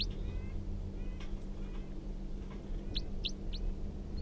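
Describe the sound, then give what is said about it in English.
A wild bird gives a few calls: faint thin whistles at first, then three quick, bright, high-pitched chirps in a short run, all over a steady low hum. “And 305 song, now pointed back up at the wild bird, who's giving a few calls.”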